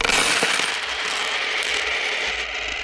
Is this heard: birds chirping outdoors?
no